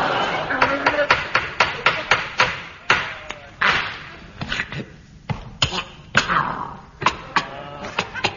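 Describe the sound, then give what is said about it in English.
A harsh, rasping fit of coughing: many rough, hacking bursts in quick, irregular succession, fairly loud, with barely a pause between them for about eight seconds. “Got a nasty cough, Ming.”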